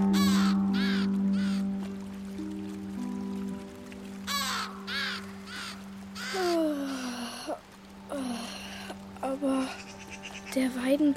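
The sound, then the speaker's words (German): Several crows caw in autumn in harsh, repeated calls, some in quick bursts of two or three, loud over a steady low hum, with a few scattered bird sounds mixed in. “Ist ja ganz gelb und verliert schon seine Blätter und die Krähen rufen.”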